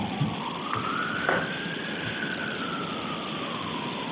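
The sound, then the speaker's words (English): An emergency vehicle siren wails, its tone rising and then slowly sliding down as it fades, over a steady hiss of background noise with no one talking. “I'm just letting the siren go out.”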